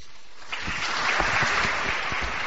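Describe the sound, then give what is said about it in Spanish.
A large crowd, standing and smiling, bursts into spontaneous applause after the Pope's speech in the Sala Clementina. After a brief quiet moment the clapping swells quickly into a dense, steady roar that fills the echoing hall. “Este aplauso espontáneo lo han dado puestos en pie y sonrientes después de que el Papa, lo habéis oído, les llamara amigos, hermanos.”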